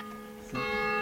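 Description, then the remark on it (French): Church bells of a church in the valleys ring with rich, lingering metallic tones, a fresh strike landing midway and swelling the resonant hum; the sound is moderately loud with no talking. “Sur ce, les cloches de l'église.”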